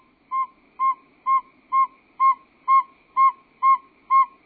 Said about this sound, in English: The advertisement call of a male saw-whet owl, if you play that at night during the migration, it will lure the migrating owls down out of the sky, and we string mist nets in the woods and harmlessly catch them, band them, take a few measurements